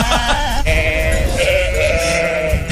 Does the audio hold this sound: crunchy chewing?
no